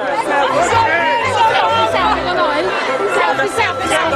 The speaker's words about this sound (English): Pope Francis mingled with a very excited crowd in St. Peter's Square, taking pictures with many. Here you can hear young members of the crowd shouting to the Pope, "Selfie, selfie," and he did have selfies.